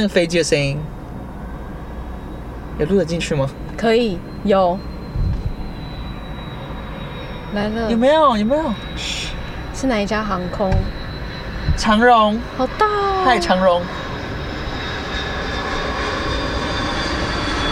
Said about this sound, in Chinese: 大家可以听听看那个飞机的声音，有录得进去吗？ 可以，有。 来了。有没有？有没有？ 是哪一家航空？ 长荣。 好大哦。 嗨，长荣。 好壮观哦。